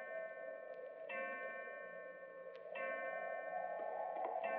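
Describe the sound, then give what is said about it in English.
A clock strikes eleven o'clock with slow, evenly spaced chimes, each ringing tone lingering into the next. Several strikes sound clearly at moderate volume, with no talking. “Eleven o'clock.”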